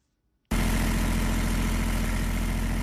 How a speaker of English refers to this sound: A machine at Junubi Soap Company in Juba foam soap bars out of palm oil and water-based products. This is the first soap-producing company established in South Sudan since the economic crisis began.